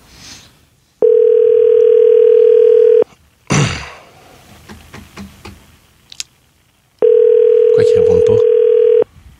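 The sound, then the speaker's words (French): A steady telephone dial tone hums for a couple of seconds, breaks off for a burst of clicks and handset clatter, then returns with faint tapping over it. No one speaks. “On a un coup de téléphone à faire, nous autres.”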